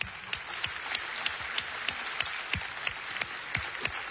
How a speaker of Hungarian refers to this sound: Azt hiszem, nagy tapsot érdemelnek meg ők is.